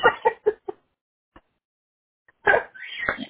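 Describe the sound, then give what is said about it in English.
A pet African grey parrot, Trudy, gives a quick run of four clucking calls, goes quiet, then lets out a louder, longer burst of chattering squawks, with no talking. “My dog is running all over the room looking for the bird.”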